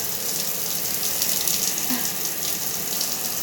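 shower water running

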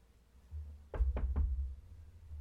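knocking on a door

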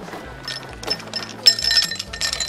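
ice cubes clinking

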